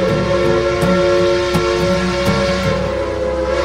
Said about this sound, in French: Nous sommes dans un univers steampunk. Nos concitoyens apprécient notamment le sifflement de la vapeur qui s'échappe, les pics d'énergie des engrenages.